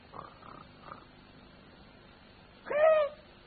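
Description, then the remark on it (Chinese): A voice imitates a person snoring up in a tree in the woods: three soft, short snorts early on, a pause, then one louder, drawn-out rasping snore near the end. “仔细一听啊，听有人打呼噜。”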